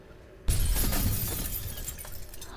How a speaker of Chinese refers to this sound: 你也不用打碎玻璃警告我。